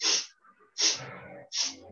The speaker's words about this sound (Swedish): Att vi ska andas in på sniff, brukar jag kalla det. Vi sniffar. Så. Ut. Vi andas in genom näsan på 4.